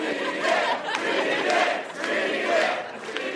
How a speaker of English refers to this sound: Hold on. The crowd is urging us on.